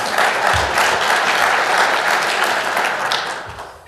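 An audience claps steadily for about four seconds, a dense, even wash of applause that stays loud throughout and tapers slightly at the end.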